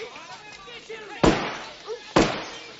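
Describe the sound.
Two sharp, loud shattering crashes of breaking champagne glasses, about a second apart, each with a brief bright tail, over a murmur of people talking in the background.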